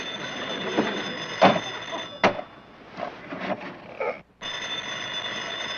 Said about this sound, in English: alarm clock is ringing.